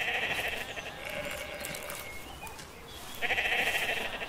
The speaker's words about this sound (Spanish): El hecho de que aparezca un rebaño en que se oye el balido de muchos corderillos.